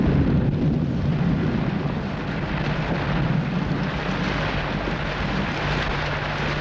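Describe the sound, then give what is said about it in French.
A steady, heavy low rumble of a thunderstorm, with lightning flashing intermittently, fills the whole stretch, thick and continuous with a rushing wash on top, fairly loud and without any distinct separate claps. “Le bruit de l'orage, des éclairs qui éclairent la pièce par intermittence.”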